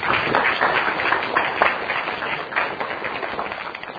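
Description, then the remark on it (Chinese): Sustained applause from a crowd, given once more after a closing prayer, a dense, steady wash of many hands clapping at a fairly even loudness for the whole stretch, with no voices standing out. “能再一次以掌声。”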